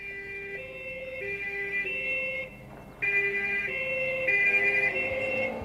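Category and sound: vehicle, police siren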